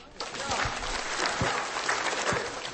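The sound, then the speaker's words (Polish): A crowd at a church mass bursts into sustained applause for the band, dense clapping filling the space at a steady, fairly loud level from start to finish, with no voices standing out. “3 wielkie oklaski!”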